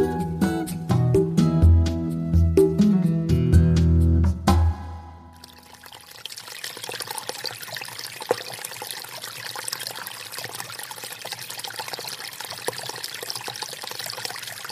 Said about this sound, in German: Was so schön sprudelt, gluckert und blubbert, das ist das Wasser von einer Quelle. Wir alle kennen das Geräusch.